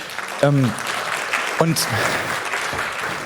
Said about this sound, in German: Ja, einen Applaus für die Technik.